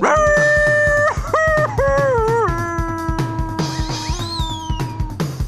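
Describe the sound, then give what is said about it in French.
A long, wavering wolf howl, made as a wolf plunges down a chimney into a pot of boiling water, rises and dips in pitch over a steady thumping rhythmic backdrop. A high sliding whistle-like cry joins near the end; no one speaks. “Le loup, le grand méchant loup tout noir, plongea en hurlant dans la marmite d'eau bouillante.”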